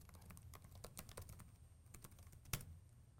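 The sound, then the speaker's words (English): Rapid typing on a computer keyboard while entering credentials at an SSH prompt, a quick irregular patter of key clicks, with one sharper, louder keystroke near the end. No one speaks. “Typing in there right there.”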